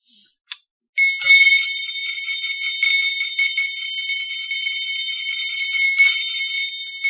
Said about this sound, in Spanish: ¡Qué mal toca la campana!